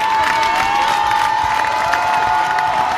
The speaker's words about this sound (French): Un tonnerre d'applaudissements s'élève au passage du bus de l'équipe de France. Les plus chanceux réussissent à apercevoir certains joueurs.